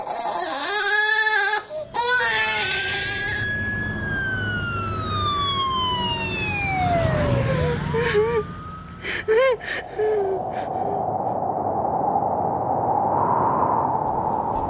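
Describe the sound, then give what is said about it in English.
An emergency siren wails in long, sweeping glides that slowly fall in pitch, preceded by a brief burst of crying and followed by a steady wash of traffic noise. “The wailing of the siren could be heard above the traffic noise.”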